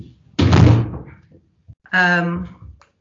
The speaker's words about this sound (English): I'm just gonna close this door for 1 second. I just opened, sorry about that,